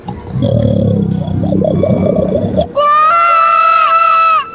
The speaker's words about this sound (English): Number seven, vacuum cleaner sounds behind a reverse alarm clock and a Wilhelm scream with the bass removed.